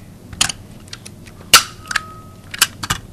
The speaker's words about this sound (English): Then he fastens metal ID bands around the bird's legs. They'll allow researchers to identify the falcons if they're spotted months or years from now. You're going to hear a couple of clicks. The bird isn't being hurt. It's just the rivet gun.